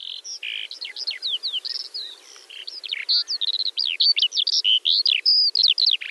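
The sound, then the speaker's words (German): A lark sings a long, unbroken stream of rapid chirps, trills and whistled notes, bright, with no other sounds beneath it. “Ich war begeistert von den Lerchen”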